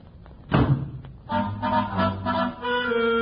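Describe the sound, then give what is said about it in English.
A door is banged shut with a single heavy thud as a man leaves, then sustained musical tones rise and carry on steadily afterward. “With that, he bangs the door and leaves.”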